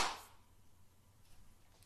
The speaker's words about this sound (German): Hast du geklatscht? Ja.